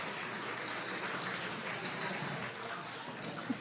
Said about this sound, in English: Wow, give him a round of applause for doing the right thing. Welcome.